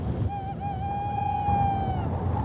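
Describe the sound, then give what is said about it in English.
A sound-effects scene in the style of the radio show Inner Sanctum: steady rushing wind fills the background while a single long, wavering owl hoot rises over it, holding a mid-pitched tone for nearly two seconds before fading. “A scene created with sound effects might go like this. Wind and owl hoots.”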